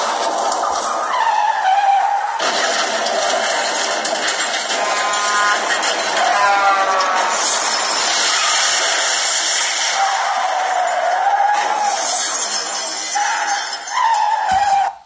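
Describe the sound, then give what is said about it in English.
Loud, sustained tire screeching runs for about fifteen seconds, with wavering high-pitched squeals rising and falling as a car skids, ending in an abrupt thud as it crashes. “I just had a car crash.”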